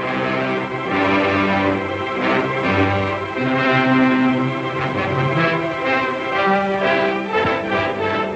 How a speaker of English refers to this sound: And Fox Film also had its own fanfare.